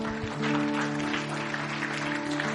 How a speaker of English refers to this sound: So, you guys can clap. That's okay.